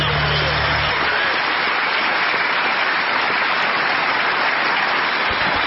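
An audience applauds a trio, a dense and steady wash of many hands clapping that stays loud and even for about six seconds, with a faint low hum at the very start.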